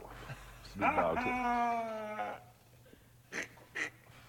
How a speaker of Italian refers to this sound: e più che altro le basi sono sempre, hanno un sacco di campioni di Miagolei dei gatti.